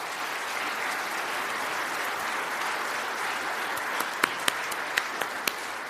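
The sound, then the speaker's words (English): A crowd applauds people who are standing, a steady, broad wash of many hands clapping at an even level throughout, with a few sharper, louder individual claps standing out near the end. “Would you applaud them as they stand now, please?”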